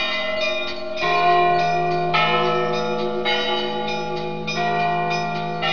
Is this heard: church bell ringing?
yes